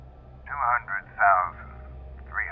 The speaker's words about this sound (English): It was familiar in an oddly comforting sort of way, and it held my attention to the point I almost didn't hear the faint static sound coming from behind me. Almost.